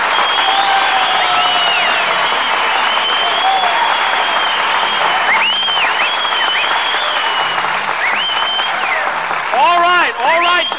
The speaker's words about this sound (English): You met Miss Maxwell. Stop applauding. Who's applauding? I'm just fanning myself to keep cool.